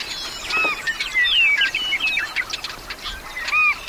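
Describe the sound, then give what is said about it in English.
A busy chorus of meadow birds (willets, swallows, snipes and wrens) in a meadow, with overlapping high chirps, whistles and trills from several birds calling at once, steady and lively throughout with no voices. “I was oblivious to this whirling world of willets, swallows, snipes, and wrens.”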